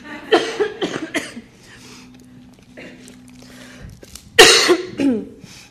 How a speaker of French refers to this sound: C'est le temps, vous pouvez tous tousser.